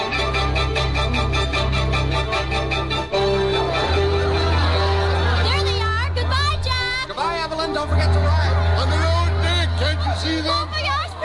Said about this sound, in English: Crowds at the pier. Confetti. It's the real thing, isn't it?